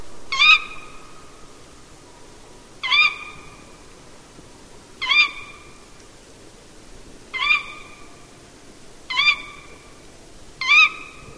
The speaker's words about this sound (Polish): Oto pani Puszczykowa nagrana w południowej Szwecji w marcu 6 lat temu około 19.30, czyli bardziej wieczorem niż nocą.